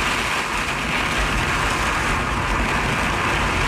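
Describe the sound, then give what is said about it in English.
Heavy, steady rain pours down amid roaring winds from the outer bands of Hurricane Milton near Fort Myers on Florida's Gulf Coast, a dense, continuous hiss and rumble that stays loud and unbroken throughout, with no voices. “The outer bands of the possible once-in-a-lifetime storm Hurricane Milton have already begun lashing Florida's Gulf Coast. This is what it sounds like near Fort Myers.”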